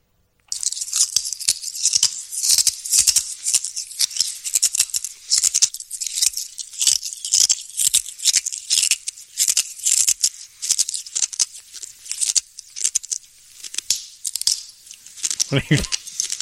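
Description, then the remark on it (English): A man chews and crunches glass, with steady gritty cracking and grinding that runs almost nonstop, sharp bright snaps layered over a continuous brittle crackle, briefly joined by a low voiced sound near the end. “No, just this is a guy who enjoys eating glass.”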